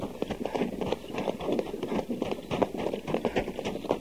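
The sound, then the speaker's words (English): Rapid, rhythmic hoofbeats of a horse running as it pulls a wagon driven by a soldier, a steady galloping clatter, fairly loud throughout, with no voices. “Captain, stop the horse.”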